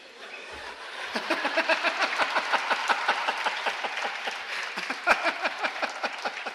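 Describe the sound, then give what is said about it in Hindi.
An audience breaks into steady applause, many hands clapping in a brisk, even rhythm that builds within the first second and holds at a lively level, with no one speaking over it. “जो तालियां बजा रहे वो खुश है बहुत।”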